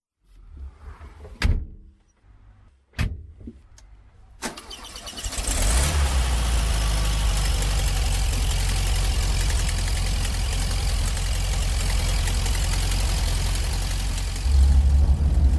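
A few sharp clicks and clunks, then the 25 kW, 34-horsepower boxer engine of a rare Jeans edition Volkswagen Beetle cranks and fires into a steady, throaty idle that rumbles on evenly, rising slightly in loudness near the end.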